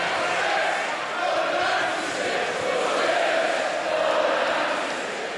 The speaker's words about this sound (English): For 2 minutes, the crowd chanted for justice for those who died.